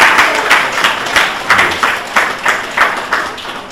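An audience applauds in a steady, rhythmic clap, a crowd of hands striking together at about three beats per second, loud and crisp throughout with no voices over it, at a prize ceremony for three first-prize winners.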